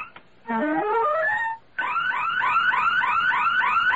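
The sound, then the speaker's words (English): A burglar alarm blares loudly: one long rising electronic tone, a brief break, then a fast run of repeating upward whoops. No one speaks. “It's the burglar alarm.”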